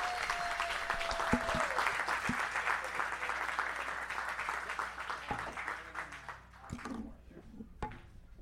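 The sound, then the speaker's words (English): Sustained applause from an audience, a dense steady patter of many hands clapping that holds loud for several seconds, then thins out and fades into scattered claps near the end. “So without further ado, let's give a round of applause for the Amazing Avenue Audio Podcast.”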